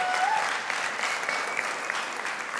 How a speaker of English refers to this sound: Yeah, we can cheer for her for a second.